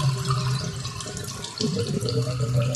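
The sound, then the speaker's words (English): Water gurgles and rushes through household drains in a steady, bubbling flow with a low hum underneath, briefly dipping before surging again, with no voices present. “Is that what you hear from your drains?”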